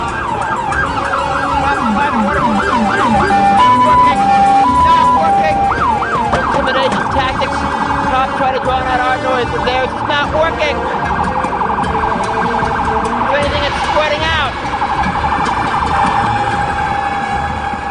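A fire truck siren wails loudly, its pitch sweeping up and down in repeated cycles over a steady rumble of traffic, continuing for the whole stretch, as two fire trucks respond to a ringing fire alarm at 601 13th Street, where a fundraiser had been held.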